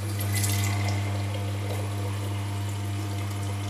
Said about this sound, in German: Super. Das war die Kaffeemaschine, noch kein KI-Musikstück, keine Sorge.